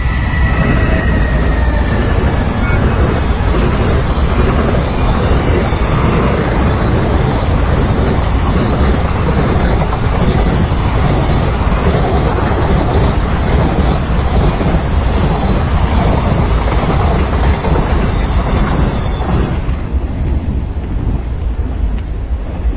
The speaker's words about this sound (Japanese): そんなこんなで今この時間に帰ってきたんですが、ああ貨物列車が行きます。